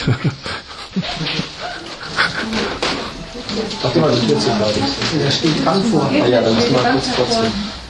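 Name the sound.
dog barking outside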